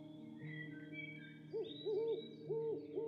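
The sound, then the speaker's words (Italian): Owls hooting at nightfall by a caravan near a wood: a series of four soft, rounded, low-pitched hoots in quick succession, rising and falling in tone, heard over a steady low background hum with no talking. “Come ricorderete però, il nostro viaggio è cominciato da un altro luogo, una roulotte nei pressi di un bosco dove un uomo sta cucinando due uova al tegamino, mentre il canto dei gufi anticipa il calare della notte.”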